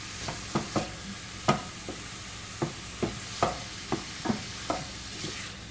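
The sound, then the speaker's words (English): Sausage sizzles steadily in a frying pan while a utensil mashes it into tiny pieces and scoots them around, producing about a dozen irregular clacks and scrapes over a constant hiss, with no talking. “So I'm just mashing this sausage into little tiny pieces in the frying pan and keeping them scooted around to make sure that they get done all the way through.”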